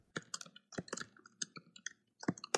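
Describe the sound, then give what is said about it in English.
Loud, close-up typing on a laptop keyboard with a microphone right over it: quick, irregular bursts of sharp key clicks with a brief pause before the tapping resumes, and no voices. “you're the loud typer, by the way. I'm like, who's typing like that?”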